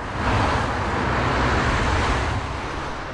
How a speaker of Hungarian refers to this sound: Ma országszerte autómentes nap van, de ez itt az Andrássy úton délelőtt 3:40-kor egyáltalán nem érzékelhető. Ebben a kereszteződésben fél óra alatt körülbelül 700 autó haladt el.